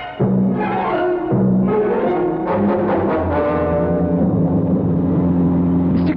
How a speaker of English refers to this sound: How fast is that car of yours? It's not mine. It's Dr. Thurman's. It's a sports car. It can do 100 if you open it up. Well, baby, we're going to open it up.